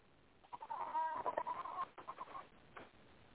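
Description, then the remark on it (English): Goats bleat in a string of wavering, strained, desperate cries that rise and fall over a couple of seconds, with no one talking. “Okay, I got goats making desperate sounds.”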